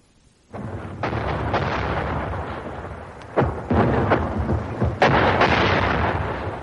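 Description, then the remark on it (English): Shells from a German 88 gun burst in water, blowing up fountains of water, in a string of sharp, loud blasts over a continuous rumbling roar, with about five heavy impacts landing at uneven intervals and no voices. “The shells were blowing great fountains of water up around us.”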